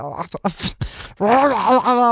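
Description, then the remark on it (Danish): A lion sneezes in a few sharp, breathy bursts, then lets out a long, wavering groan that rises and falls in pitch. No one speaks over it. “Det er en løve, der nyser.”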